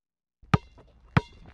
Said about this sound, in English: Balls go ping pong.